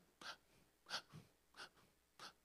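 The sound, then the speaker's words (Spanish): A voice imitates the gasping breaths of a fish out of water, four sharp airy intakes spaced evenly about every two-thirds of a second, fairly quiet, with no talking. “El Señor está ahí viéndote, que estás tirado en el suelo, que estás respirando como aquel pez fuera del agua por sustos. Así.”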